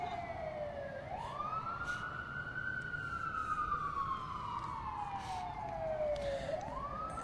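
A fire department siren wails steadily in long, slow rising and falling sweeps as the vehicle drives by, loud over a background rumble of traffic, with no one talking.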